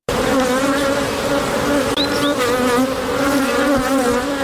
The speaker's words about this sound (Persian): صدای این زنبورها برای زنی که به زنبورداری عشق می‌ورزد خیلی گوشنواز است.